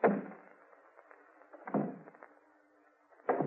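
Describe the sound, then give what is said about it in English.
Three slow, heavy footsteps land on the hollow wooden boards of a porch, each a dull thump with a short resonant ring, spaced well apart, with no voices. “He says he heard steps on the porch.”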